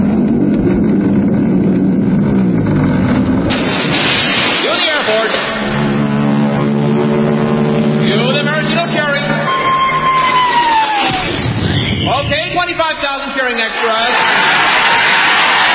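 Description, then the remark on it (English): A deep, heavy rumbling like a 700-foot mountain of whipped cream rolling into Lake Michigan gives way to a loud droning Royal Canadian Air Force aircraft towing a 10-ton maraschino cherry, with a falling whine, then a crowd of 25,000 extras bursts into cheering near the end. “I want the 700-foot mountain of whipped cream to roll into Lake Michigan”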